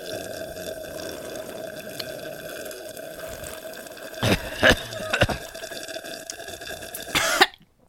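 A few short, wet slurping sips from a drink, coming in quick bursts over a steady background hum, with a final louder slurp at the end.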